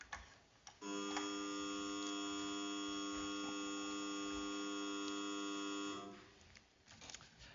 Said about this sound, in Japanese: それでは、定刻を決めますので、ブザーにより開会をいたします。